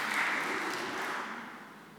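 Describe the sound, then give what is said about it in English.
An audience applauds together after a Bible reading from the book of Ezra, a dense wash of many hands clapping at a steady loudness that slowly begins to fade toward the end. “I think anybody who can read that passage and get through those names deserves a round of applause, don't you?”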